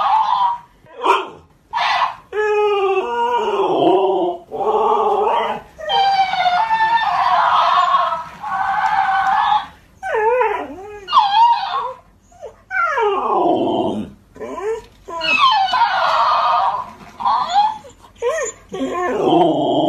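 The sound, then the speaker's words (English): A large Alaskan Malamute dog howls and whines in long, wavering, sliding cries, trading back and forth with the squeaky, high-pitched voice of a talking toy hamster, loud throughout. “It's the Malamute and the hamster toy.”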